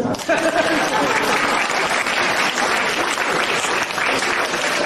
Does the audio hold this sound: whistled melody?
no